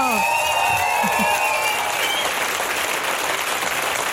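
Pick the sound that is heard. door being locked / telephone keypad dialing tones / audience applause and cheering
audience applause and cheering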